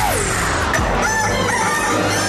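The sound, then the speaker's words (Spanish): A rooster crows loudly, one long rising-and-falling cock-a-doodle-doo with a raspy, strained tone, set against a dense, noisy background. “En este radio se escucha El Gallo de Radioactiva”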